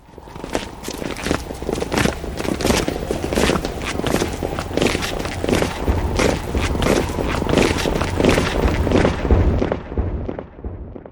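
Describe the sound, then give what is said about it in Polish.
A dense, irregular patter of many footsteps, like a crowd walking out of step, loud and continuous throughout with no talking over it; a group 'loose step' sound effect (as opposed to the even marching step) from the Polish Radio Theatre effects library. “Mamy luźny krok i marszowy, czyli równy. To chyba był ten luźny.”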